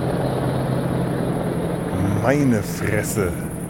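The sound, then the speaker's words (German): Low, steady rumbling drone of two huge helicopters flying fairly low overhead, a constant heavy rotor wash filling the background, with a brief voice breaking in partway through. “Auch wirklich zwei riesigen Riesenbrocken von Hubschrauber, die da gerade über mir wegfliegen. Ziemlich tief.”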